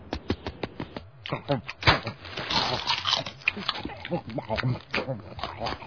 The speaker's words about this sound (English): God, eats like a pig. I don't know. Pigs tend to chew. I'd say he eats more like a duck. Well, some kind of farm animal anyway.